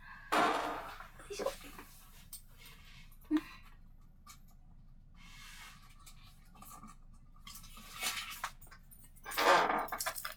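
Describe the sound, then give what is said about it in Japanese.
Creaky, scraping bursts from a chair shifting under weight while leg shackles are being removed, loudest at the start and end, with brief rubbing and clicking noises in between against a quiet background. “ごめんなさい、椅子のギシギシする音が鳴っちゃって。”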